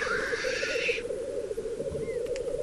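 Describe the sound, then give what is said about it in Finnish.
Birds at a lek, with more birds arriving, keep up a steady, low bubbling coo without pause, with a brief hissing call at the start. No one speaks. “No niin, sieltä tuli lisää. Joo, lisää lintuja soitimella.”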